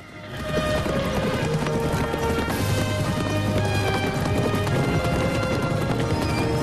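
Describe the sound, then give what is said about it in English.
A herd of mustang horses gallops through the Golden Valley in a dense, continuous thunder of hooves, loud, with rapid overlapping beats and an occasional whinny rising above the rumble, as two cowboys on horseback chase and herd them. “The cowboys wave coiled lassos in the air as they gallop along with the pack.”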